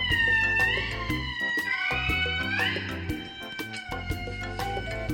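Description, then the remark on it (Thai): Calls of lemurs from Madagascar: drawn-out, high wailing cries that rise and fall in pitch, sounding loud over a steady, thumping musical backing with sharp percussive ticks, and no one speaking. “เรื่องราวของสัตว์ที่จะมาเล่าให้ฟังในวันนี้อยู่ที่เกาะมาดากัสการ์ค่ะมีชื่อว่าลีเมอร์”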